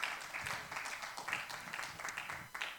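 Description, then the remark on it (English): An audience claps together in sustained, overlapping applause as worship to the Lord, steady and fairly loud throughout, with faint voices mixed in underneath. “Can you worship the Lord with a hand clap right now?”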